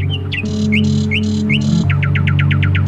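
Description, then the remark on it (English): Bird calls ring out over a steady low drone: a few spaced squawky chirps with harsh buzzy bursts, then a quick run of about eight sharp, rising chirrups near the end. “They call it birdsong, but it's hardly a song. There's no real tune to speak of, just a random cacophony of squawks and chirrups.”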